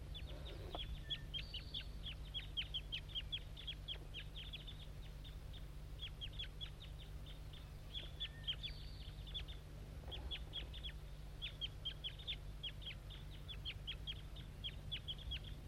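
A banded juvenile bird, thought to be bird 2-7, gives rapid, short, high-pitched chirping calls in quick bursts throughout, over a steady low hum. Nobody speaks.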